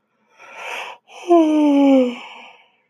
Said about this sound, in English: Here goes the yawn.